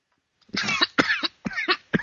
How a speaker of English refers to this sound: And I'm going to cough and die.